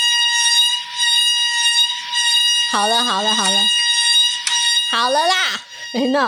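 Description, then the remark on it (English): A malfunctioning household clothes dryer, running, gives off a loud, steady, high-pitched buzzing tone that never lets up, while a voice twice speaks briefly over the noise. “So this is the sound of this is the actual sound of our dryer right now.”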